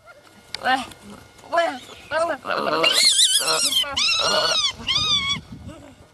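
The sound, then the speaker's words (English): A monkey chattering in rapid bursts of shrill, squeaky calls, fairly loud, rising into sustained screechy cries for several seconds with short pauses between outbursts. “could you do us a massive favor and play the sound of a monkey chattering?”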